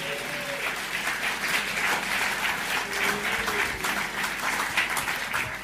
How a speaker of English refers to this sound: What you need is courage. Some people are not even clapping courageously.